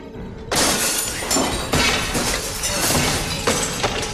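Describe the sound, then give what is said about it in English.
A sudden loud smash of a glass window being broken with a rock, followed by several seconds of crashing, tinkling shards falling and scattering, with a few sharper breaks along the way. The window is in a locked door of a reserve power plant. “He smashes the glass from the window and opens the door handle from the inside.”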